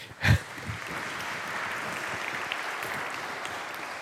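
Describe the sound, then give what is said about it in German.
A short round of applause from a small group, given for drawing the symbols of a cross, heart and anchor for the theme of faith, love and hope: a steady patter of clapping hands that starts with a thump and keeps an even, moderate level, with no talking. “Super, kleiner Beifall für dich.”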